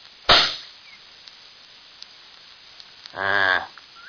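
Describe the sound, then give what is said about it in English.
A single loud rifle shot, aimed at the middle of a rock to check the sight, cracks sharply and fades within a fraction of a second. Quiet follows, then a short, tonal, harmonic call rises near the end, with no one speaking. “Well, I'm going to aim at the middle of that rock and shoot.”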